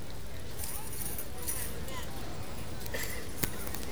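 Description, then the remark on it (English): Horses' hooves plod at a walking pace in a paddock as riders are told to mount, faint beneath a steady wash of outdoor crowd noise and murmuring voices, with an occasional sharper knock. “horse, go to your horses.”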